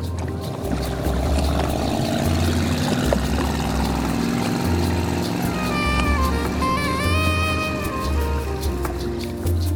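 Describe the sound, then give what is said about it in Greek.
Small boats' engines drone steadily with a low, throbbing pulse throughout as they travel between islets and rocky islets along a pine-lined coast. The sound is constant, joined near the end by some thin high tones above the motor noise. “Τα πεύκα ακουμπούν σχεδόν στο κύμα και τα μικρά σκάφη ταξιδεύουν οχελικά ανάμεσα σε νησίδες και βραχονησίδες, συνθέτοντας εικόνες που θυμίζουν καρποστάλ.”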